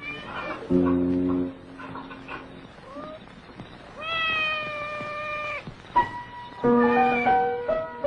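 A cat meows repeatedly, mixing low, drawn-out calls with a long, higher wavering meow, and short pauses between the cries.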